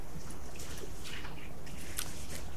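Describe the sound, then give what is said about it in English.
A few soft, wet sips of communion juice from a cup, with faint sloshing liquid and a gentle swallow under a steady hiss; nobody speaks. “I meant to drink the water. I'm drinking my communion juice instead.”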